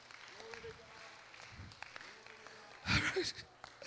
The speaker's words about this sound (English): Somebody give him a hand clap of praise.